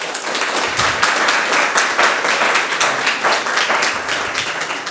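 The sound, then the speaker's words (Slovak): An audience applauds the event's moderator steadily, a dense and loud wash of many hands clapping for about five seconds with no pauses and no voices standing out. “tak poprosím potlesk.”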